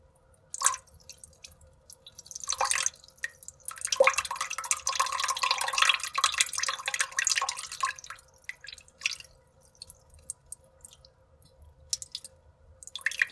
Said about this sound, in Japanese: よし、じゃあおしっこ出してきます。